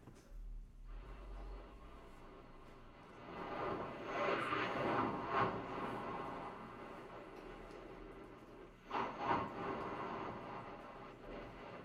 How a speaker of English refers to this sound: And, now I have another sound for you that's much quieter. What if you live by the ocean? You wanted to hear the ocean. Here's the ocean.